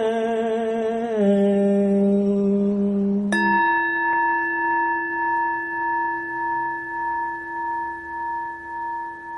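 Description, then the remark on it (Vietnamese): A steady low tone shifts pitch once, then a single deep temple bell strike rings out, its long resonant hum sustaining with a slow, pulsing waver as it fades. “nguyện tiếng chuông này vang pháp giới.”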